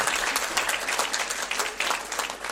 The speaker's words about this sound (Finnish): Annetaan aplodit vielä tälle yleisölle, joka oli aivan mahtava tässä, eli meille kaikille.